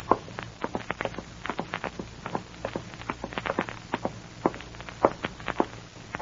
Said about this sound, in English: At last, you brace yourself. Open the door and walk softly to the stairway.